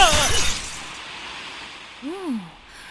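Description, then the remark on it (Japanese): A loud crash of shattering glass bursts out right at the start as a person comes flying in and glass lands on a main dish. It fades quickly, followed a moment later by a short voiced exclamation. “メインディッシュにガラスのトッピングが追加されてしまったよ。”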